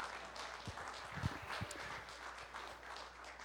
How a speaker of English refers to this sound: And someone give the Lord a hand clap of praise.